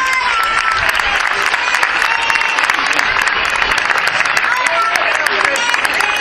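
Sustained applause from a sizable audience welcoming the president of the Spanish Federation of Rare Diseases (FEDER) as the next guest, steady and dense clapping for about six seconds, with no voices standing out above it.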